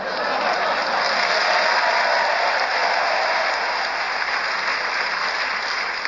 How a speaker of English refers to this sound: I think that spontaneous round of applause means they want you to have an extra point, whatever happens, Paul.